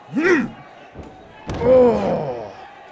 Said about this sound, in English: Do you feel that? That is the first of many body slams.